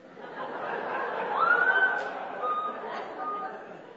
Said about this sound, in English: I mean, a whistle? Or, wow! You know, something, some kind of explanation.